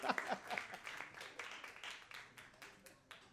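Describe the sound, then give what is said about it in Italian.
An audience claps steadily for a few seconds, a dense patter of many hands, with a brief voice or cheer near the start before the clapping carries on alone. “E un applauso ancora”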